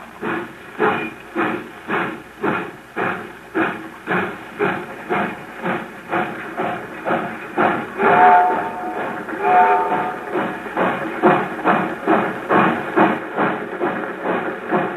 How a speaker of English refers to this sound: I get really sick when I think about the train pulling out.